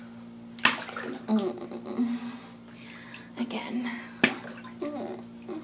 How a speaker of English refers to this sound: Oh, good. Give it a very wet slap now, okay?